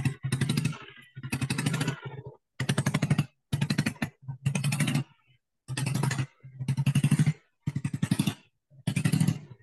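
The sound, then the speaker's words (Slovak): An engine sputters and cuts out again and again, catching in rough, rattling bursts with brief silent gaps between them; it backfires through the exhaust and cannot hold idle revs. It is loud. “Striela do výfuku. Striela a nedrží otáčky.”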